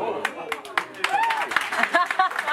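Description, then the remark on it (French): Scattered audience clapping, a few sharp irregular claps at first that thicken into brief applause, with voices talking and laughing over it. “Ça ne mérite pas des applaudissements.”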